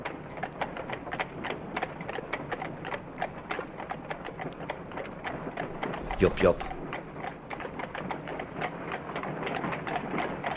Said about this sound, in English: And even these days, the various old people that I meet say to me, "Oh, we remember your horses well. We love to see them going through the city," and so on and so on.